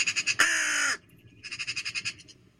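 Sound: raven croaking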